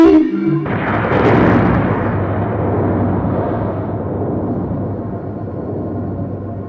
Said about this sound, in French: La mer tape contre les falaises. Le vent souffle et l'océan s'agite. La mer est très puissante.